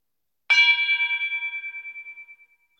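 A single struck gong rings out on its own, bright and metallic, its shimmering, slightly pulsing tone fading away over about two seconds; the gong calls people to morning prayer in Vanuatu.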